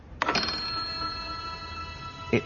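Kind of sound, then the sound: signal or alarm, bell ringing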